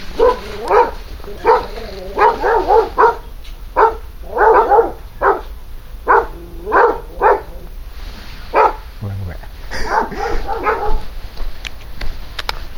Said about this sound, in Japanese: 犬に威嚇されました。道の脇のね、木の股のところにちょっと大きめの、白熊のぬいぐるみが立てかけてっていうか、しがみつかせてあって、ちょっと面白かったんで、それ写真撮り行こうと思ったら、結構でかいポインターが2匹でかい檻の中にいて吠えまくってました。